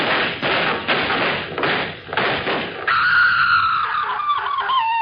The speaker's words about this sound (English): Them was shots. There must be trouble in Murderous Gulch.